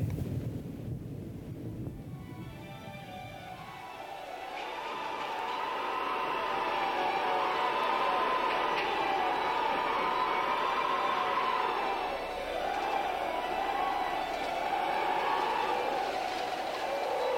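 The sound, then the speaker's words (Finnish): Strong wind rises from a low rumble into a loud, steady howl with a whistling, wavering tone that swells and dips, filling the foreground with no voices. “Mutta Jehovan lähettämä tuuli nousi ja ajoi edellään viiriäisiä meren takana ja painoi niitä leiriin.”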